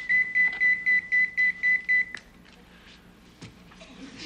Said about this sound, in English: Don't you think you better make that call? No, because if it's an emergency, see, they just give one long beep.